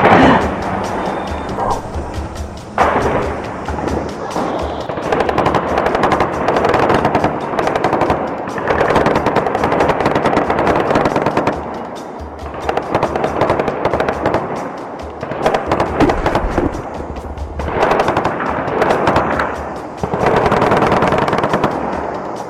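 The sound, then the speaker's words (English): Sustained bursts of rapid automatic gunfire from a gunfight that has just erupted crackle loudly, broken by brief pauses, with overlapping sharp shots that keep a dense, chattering rhythm throughout; no voices are heard. “Just as I'm speaking to you, some gunfights have just erupted.”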